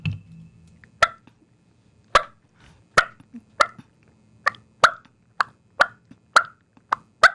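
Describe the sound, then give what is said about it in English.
A turkey call cutting: about eleven sharp, loud clucks, spaced unevenly at first and then coming faster toward the end, with a faint low hum at the start and no talking. “With the cutting is just a series of clucks put together real fast and just a cluck.”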